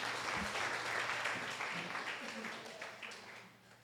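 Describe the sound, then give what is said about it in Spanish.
A crowd applauds steadily for a few seconds, a dense wash of many hands clapping that tapers off slightly toward the end, with faint voices mixed in underneath. “Un aplauso”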